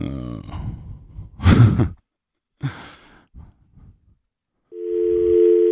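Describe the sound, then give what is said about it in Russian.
An empty phone call in which nobody speaks: a loud burst of breath or a sigh and faint muffled movement, then a steady electronic telephone line tone cuts in near the end and holds. “Это, видимо, глюк, телефонная машина.”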